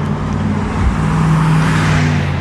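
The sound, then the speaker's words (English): A 15-passenger van rumbles past, its engine drone and tire noise loud and steady throughout, with no voices. “15-person van.”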